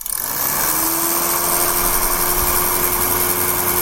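A salon hood hair dryer runs steadily, a constant whirring motor with a rushing airflow hiss and a faint high whine, starting abruptly and holding unchanged throughout with no voices.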